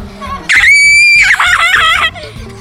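A loud, shrill neigh imitated by a human voice at a horse fair in Verona, Italy: one high, sustained whinny of about a second and a half that breaks into a wavering, shaky ending before fading.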